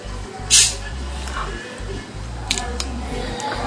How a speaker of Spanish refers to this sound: Vamos a destapar la Inca Cola. ¿Sí?